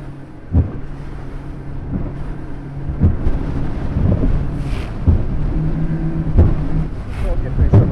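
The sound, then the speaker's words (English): An RNLI inshore lifeboat drones along at speed in fairly challenging open sea conditions while approaching the Calf of Man, engine humming low and steady, with wind buffeting and heavy thuds every couple of seconds as the hull slams into choppy waves. “This lifeboat, the RNLI says, can handle fairly challenging open sea conditions, as I'd soon find out as we approached the Calf of Man.”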